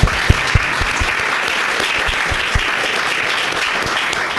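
Sustained applause from a sizable audience welcoming a guest, the chief field rabbi of the Hungarian Defence Forces. A dense, steady patter of many hands clapping, fairly loud and unbroken for several seconds with no voices on top.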